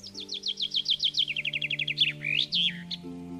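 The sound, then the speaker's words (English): A rose-breasted grosbeak, perched in a maple tree in spring, sings a quick run of about fifteen bright repeated chirps, then a few louder swooping, warbled notes, over a faint steady low hum. “Several springs I've been serenaded by a rose-breasted grosbeak perched in the tree while planting morning glories.”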